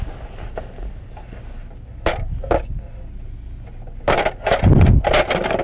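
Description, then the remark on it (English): A small plastic toy cage door clacks shut a few times as a toy monkey is put in and taken out, with sharp clicks and rattles, a couple of isolated snaps, then a quick cluster of clattering knocks near the end. “Do you want to put him in his cage?”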